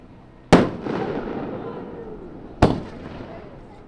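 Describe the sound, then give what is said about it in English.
Consumer fireworks set off as a demonstration for customers at a fireworks shop in Juneau on a Thursday afternoon: two sharp, loud bangs about two seconds apart, each trailing into a crackling, fizzing tail that fades slowly. “Amid brisk sales at Smoke Signals Fireworks on Thursday afternoon, customers got a little demonstration.”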